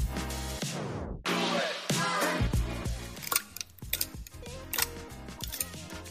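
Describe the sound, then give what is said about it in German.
Ice cubes clink and rattle in a glass, with a quick run of bright, irregular taps and knocks following a brief tonal passage at the start. No one speaks. “Hörst du das? Das klingt nach Eiswürfeln.”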